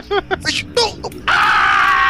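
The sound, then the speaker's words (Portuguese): A few short, strained vocal bursts lead into a loud, sustained scream from a single voice, performed as a reenactment of screaming while running out of a house. The scream holds steady for about a second until the end. “Esse grito é bom, dá pra fazer de novo?”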